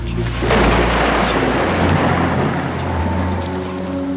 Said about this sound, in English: Was the storm exciting or frightening?